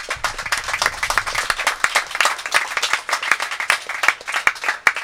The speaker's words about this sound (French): Nous voulons un tonnerre d'applaudissements pour l'équipe de chroniqueurs